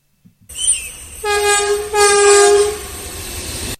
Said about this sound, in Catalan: Comencem pel món dels trens, uns veritables gegants de ferro que ens transporten a velocitats increïbles.